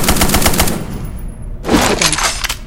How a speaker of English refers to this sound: Number 7. Machine gun. Hammer. Wait. Machine gun. Number 8 is the machine gun.